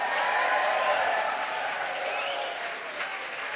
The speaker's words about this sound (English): Ready? Do you want to get next to him? You're going to need all the help you can get. Go. Come on, cheer them on, people.